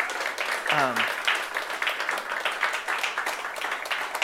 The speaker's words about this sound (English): So this morning, I want to cheer on the moms that are in the room. Can we just give them a round of applause and say thank you?